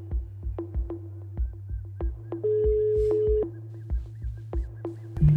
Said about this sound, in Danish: Og så prøver jeg at ringe til Wassim Ghulam på det nummer, som kvinderne også har fået af ham